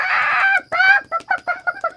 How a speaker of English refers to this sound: Suddenly, the cock jumped up and flapped his wings. He screeched and cackled.